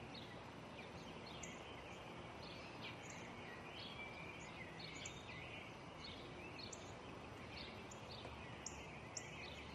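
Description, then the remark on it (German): A sparrow chirps repeatedly, short high tweets scattered every second or so over a steady hiss of outdoor background noise, with no one speaking. “Was ist das? Ein Spatz.”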